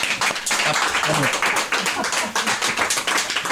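Steady applause from a live audience at the L'Autre Monde bookshop, 42 Grande Rue, Avallon, fills the whole stretch, a dense wash of many hands clapping at once, fairly loud, with no pauses.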